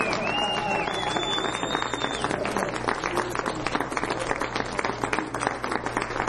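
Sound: audience applauding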